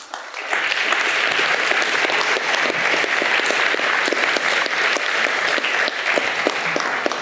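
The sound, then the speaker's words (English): A large audience claps steadily, a dense, sustained wash of applause that swells in quickly after a brief quiet start and holds at full strength throughout, a round of applause for the collective effort of four speakers who have presented their cases. “In fact, I'd like to ask for another round of applause for the collective effort.”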